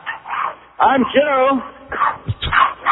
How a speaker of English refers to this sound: It's got a little dog. I hear the dog going right, there.